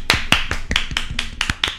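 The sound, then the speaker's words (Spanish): A short burst of hand clapping as applause on Radio Bronca 104.5: about eight sharp, crisp claps in a quick, fairly steady rhythm, moderately loud, with no talking. “Un aplauso, por favor.”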